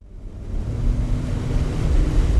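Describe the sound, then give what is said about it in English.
A small boat carrying St. Bernard Parish President Craig Tafaro motors up the Mississippi River Channel to check on a lock, its engine a low steady drone mixed with rushing wind and water noise, growing slightly louder throughout. “Bernard Parish President Craig Tafaro heads up the Mississippi River Channel in a small boat.”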